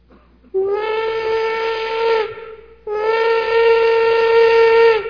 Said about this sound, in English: This is the big locomotive of yesteryear, the one with the steam whistle. Remember the whistle when you could hear it on a cold night and it gave you a lonesome feeling? Remember that sound?